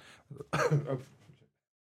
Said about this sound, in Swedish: Medan … hostar lite här